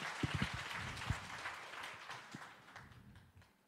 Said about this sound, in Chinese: 他是一个说话算话的，来，我们再把掌声归给主。